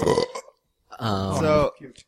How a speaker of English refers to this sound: So when he burps in the mic, he doesn't get dirty looks